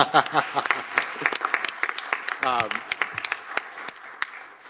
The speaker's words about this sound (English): But today's a real milestone, and I think we should recognize that and celebrate that, and maybe clap a little about it too, huh?